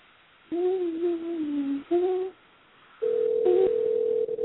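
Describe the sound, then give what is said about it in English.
A telephone ringback tone on a call: two steady, mid-pitched electronic tones, one long and one short, then a brief pause and a louder, higher sustained tone. No one speaks. “It's ringing.”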